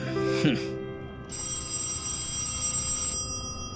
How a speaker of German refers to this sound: Mami, Daddy, das Telefon klingelt. Ich höre es, Liebes.